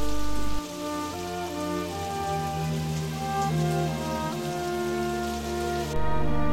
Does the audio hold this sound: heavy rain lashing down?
yes